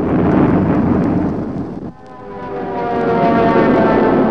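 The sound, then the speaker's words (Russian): A loud, rumbling roar of fighter planes defending the Leningrad sky as they dive on enemy positions, easing briefly midway before a droning engine tone with a steady whine swells back up to full strength. No one speaks. “И защитники ленинградского неба пикируют на вражеские позиции.”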